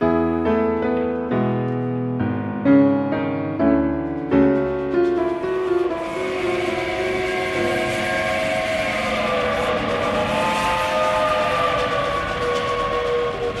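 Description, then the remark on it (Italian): A train bound for Boston clatters along the tracks in a steady, dense, metallic rumble, preceded by a few seconds of stepped, chord-like tones; faint sustained tones ride over the noise, and no one speaks. “E perché adesso siamo in treno?”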